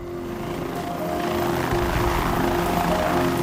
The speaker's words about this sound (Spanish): Al día siguiente, los helicópteros del Departamento de Seguridad Pública de Arizona recorrieron la ruta programada. Volaron sobre la Interestatal 17, hacia el norte hasta Flagstaff, comprobando todas las salidas.